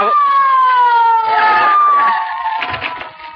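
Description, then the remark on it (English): A police squad car siren, called to a robbery, wails loudly, a single sustained tone sliding slowly downward in pitch, then growing a little quieter and rougher toward the end. “Somebody here called for a squad car.”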